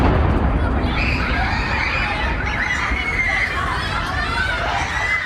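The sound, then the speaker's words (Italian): A loud, muffled boom-like rumble from an explosion in Kyiv opens into many schoolchildren screaming and shouting as they flee in panic, a dense, continuous chaos of high shrieks over heavy roaring noise that never lets up. “Pochi giorni fa sono circolate in rete le immagini di scolari che a Kiev sentono un'esplosione e che scappano in panico.”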